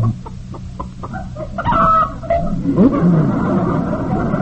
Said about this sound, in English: Oops. Hey, that hen just laid an egg.